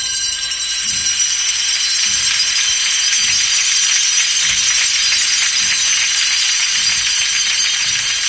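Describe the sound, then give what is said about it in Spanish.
Many small hand bells carried by Nazarene penitents jingle continuously in a bright, dense shimmer as a Holy Week procession float goes out into the street in Málaga, with soft low thuds pulsing steadily underneath at a walking pace. No voices are heard. “Mientras tanto, en otro lugar de la ciudad, un trono sale a la calle con la algarabía de las campanillas de los nazarenos.”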